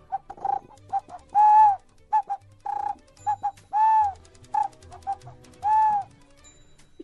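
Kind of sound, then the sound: toy bird whistle chirping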